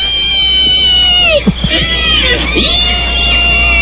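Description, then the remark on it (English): A loud, sustained high-pitched squealing scream from a film scene fills the whole clip, wavering in pitch with a few sharp dips, over a dense, noisy background like a crowd. “Yeah, that scream.”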